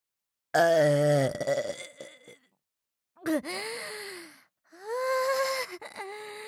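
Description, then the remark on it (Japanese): Three long, loud burps, each a drawn-out guttural croak with a rough, voiced tone, separated by short pauses. The first is the longest, and no speech is heard. “また一発でっけえザーメンゲップ花火打ち上げてやるから、ちゃんとその耳かっぽじってよーく聞けよ。”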